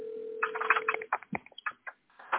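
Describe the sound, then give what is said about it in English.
A steady telephone dial tone hums for about a second as a phone call is placed, then a quick run of electronic dialing beeps follows, short tones in an uneven sequence with brief gaps, band-limited like a phone line. “He says, call them via phone.”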